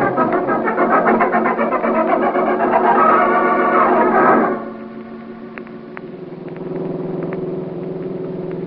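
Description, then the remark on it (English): The engine of a small, light truck runs with a loud, rough droning roar for a few seconds as it drives, then drops to a quieter, steady low hum with occasional light clicks and rattles. “Yeah, not a bad little truck. Nice and light. It really moves, huh?”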